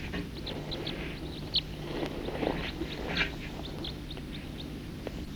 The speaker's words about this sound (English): Here's some other birds flying over.